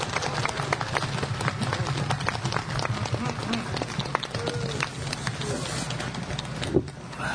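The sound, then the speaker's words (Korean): The audience at a Mass at Namildang claps steadily to encourage and congratulate one another, dense overlapping hand claps forming a continuous, fairly loud patter that holds evenly for several seconds before easing slightly near the end. “여러분 큰 박수로 서로 격려해 주시고 축하해 주시면 고맙겠습니다.”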